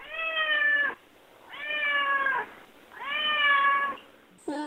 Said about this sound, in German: Das Tier, das Sie da hören, miaut und schnurrt wie eine Hauskatze, ist aber viel schneller. Ein Gepard.